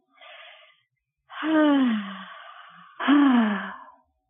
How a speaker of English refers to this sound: And take a deep breath. Inhale and exhale.